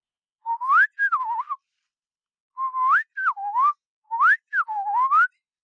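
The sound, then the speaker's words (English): Bird song: three clear, whistled phrases, each a rising note then a falling, warbling one, repeated with short pauses between. Fairly loud against silence, with no voices. “And it turns out there's sometimes a difference between bird song.”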